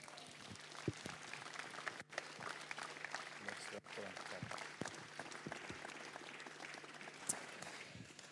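An audience breaks into sustained applause, a dense, steady patter of many hands clapping at an even loudness for several seconds.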